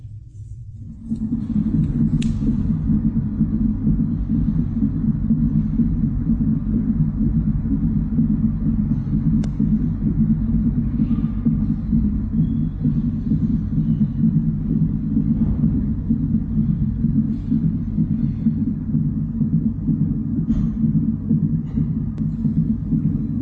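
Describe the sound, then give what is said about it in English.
A fetal heartbeat on an ultrasound monitor, heard as a steady, loud, low rumbling throb that pulses continuously for the whole stretch with no one talking. “That's so powerful, as you're hearing the heartbeat of a child.”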